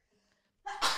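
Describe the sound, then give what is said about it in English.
A single loud sneeze bursts out after a brief quiet inhale, sharp and breathy with a sudden explosive release at the end. “I have to sneeze.”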